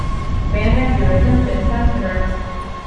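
A full metro train sits at a station platform as people board, its deep, steady rumble and a whining electrical hum filling the space, with a crowd's indistinct murmur mixed in underneath.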